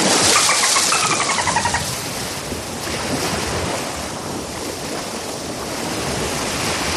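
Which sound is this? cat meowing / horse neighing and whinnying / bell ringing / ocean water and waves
ocean water and waves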